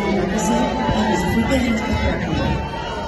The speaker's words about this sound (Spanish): Hoy ha tenido que escuchar algunos abucheos y gritos de dimisión, aunque también ha habido tímidos aplausos.